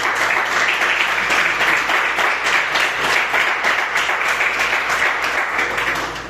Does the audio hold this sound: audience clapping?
yes